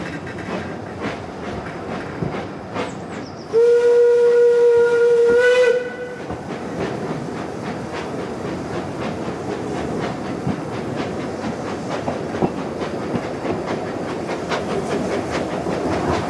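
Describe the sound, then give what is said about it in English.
A steam train's whistle blows loud and steady for about two seconds, then the engine chugs and clatters along the rails with rhythmic puffing. “And you've given up your yacht to come in the steam train?”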